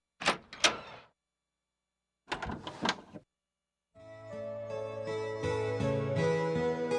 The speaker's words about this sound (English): The door opened, and her husband came in.